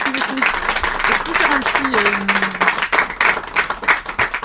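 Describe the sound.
An audience applauds with a steady, dense patter of many hands clapping for several seconds, while a voice talks over the first half.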